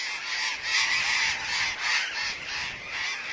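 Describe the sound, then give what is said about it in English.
A large flock of birds, having left its roost just before sunrise, moves off to forage over the countryside, honking continuously, many overlapping raucous calls blending into a dense, steady chorus that fills the air without pause. “Soon, the flock is on the move, their raucous calls filling the air.”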